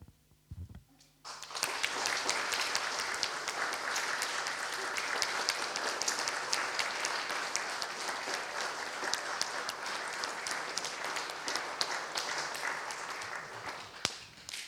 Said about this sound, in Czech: Pane Bože, my ti děkujeme za všechno, co jsi pro nás udělal, za všechno, co jsi nám dal. A chválíme tě za to, že ty jsi takový úžasný a tak ti chceme zatleskat.